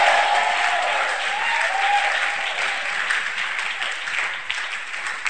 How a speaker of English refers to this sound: Somebody clap your hands, make a joyful noise.